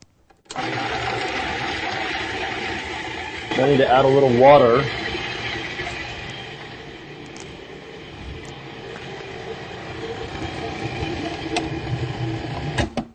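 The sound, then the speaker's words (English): A food processor whirs steadily and loudly from start to finish, a continuous motor drone as it blends ingredients including cacao powder and salt to a creamy consistency, with a person speaking briefly over it partway through. “So now I'm going to use the food processor to blend this up to a creamy consistency.”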